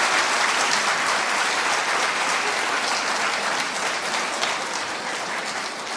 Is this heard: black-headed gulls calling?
no